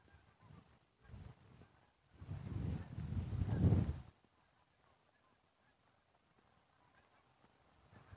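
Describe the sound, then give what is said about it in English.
Geese honk in a noisy burst in the morning, a few calls at first and then a dense, overlapping clamor for a couple of seconds, before fading to quiet outdoor background. “It's a goosey morning here.”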